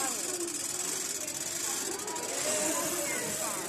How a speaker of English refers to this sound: I'll get this chair. It's a very noisy chair now, so.